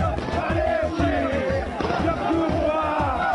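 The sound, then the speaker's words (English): A dense crowd of rebel soldiers and civilians cheers and shouts in Green Square, Tripoli, Libya, on a Sunday night, while sharp, rapid bangs of celebratory gunfire punch through the noise in steady repeated bursts. “Rebel soldiers and civilians cheering and shooting in Green Square in the heart of the Libyan capital.”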